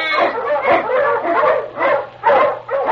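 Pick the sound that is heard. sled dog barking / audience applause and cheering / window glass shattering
sled dog barking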